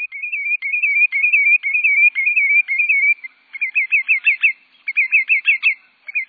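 A lesser yellowlegs, a type of sandpiper, sings a rapid, musical series of high, warbling whistled notes in steady pulsing phrases, with a brief pause before the rhythmic song resumes, no voices present.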